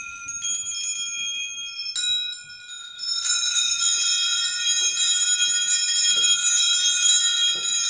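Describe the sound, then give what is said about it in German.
Many small bells hanging on threads in a room, a bell forest set up by Beat Giesin with a school class, tinkle and jingle continuously as children move them with their fingers; bright overlapping tones shimmer and ring on, building into a dense cluster of chimes after a brief lull. “Glöckchen, die im Raum an die Fäden hängen und die Kinder mit ihren Fingern bewegen.”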